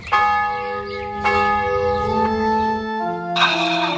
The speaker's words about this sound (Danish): skal vi ikke bare lige gøre det sådan, at jeg gonger lige på kirkeklokken